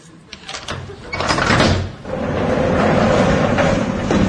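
A few sharp clicks and rattles as a lock is worked with a key, followed by a heavy door grinding and sliding open with a long, steady rumble, fairly loud.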